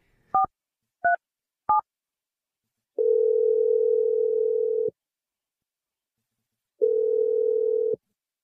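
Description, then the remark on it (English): Three quick keypad dialing beeps as a call is placed to a woman, then the line rings: two long, steady ringback tones separated by a pause, sounding thin as if heard through a phone receiver. No one speaks. “We're going to call her from 8 different lines at once?”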